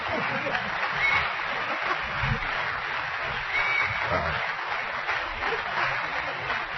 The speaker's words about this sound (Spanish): Aplausos, por favor.